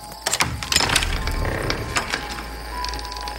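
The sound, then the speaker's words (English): A soot-stained wooden door is pushed open with a loud creak, a series of rough, ratcheting clicks and groans, loud at first and then settling into a thinner, higher squeak at the end. “Then Jack turned and stumbled to the soot-stained door, pushing it open with a loud creak.”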